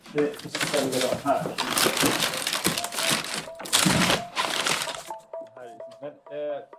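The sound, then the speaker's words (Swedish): Busy rustling and crinkling of fabric and bags as a woman's clothes, including jeans, are handled and put away for now, for several seconds; then the rustling stops and a voice begins speaking. “Vi gör så här, vi tar bort Katjas kläder tills vidare.”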